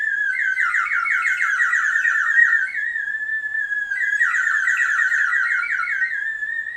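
A water-filled whistle, brought back from New Zealand, blown in two long bursts, making a shrill, bubbling warble around a high pitch that trills and wavers continuously, loud and steady, with no voices.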